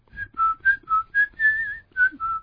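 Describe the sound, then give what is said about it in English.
A person whistles a short, jaunty tune of about eight bright notes in quick succession, one held slightly longer in the middle, heard clearly with no talking. “No, you don't whistle when you're sad.”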